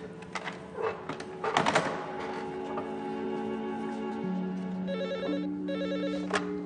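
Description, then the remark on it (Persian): A telephone rings with a second incoming call on the other line, its bright repeating trills sounding twice near the end over a busy background of clicks, taps and a steady hum, with no one speaking. “ببخشین چند لحظه گوشی دستتون باشه، یا از همه خانو پشت خط کارتون دارم.”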